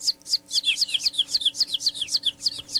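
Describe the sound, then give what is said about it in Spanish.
A rapid, continuous run of high, thin chick peeps, each a short downward chirp, repeating steadily with a faint low hum underneath and no talking. “Gallina, la casa tiene gallina, gallina con los pollitos píos, pollitos píos, pollitos píos, pollitos píos, pollitos píos.”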